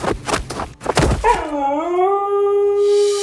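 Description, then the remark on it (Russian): After a second of thumping, noisy bursts, a husky lets out one long howl that swoops upward and then holds a steady, mid-pitched tone to the end. “Ныряю в сугроб со сельской хаски.”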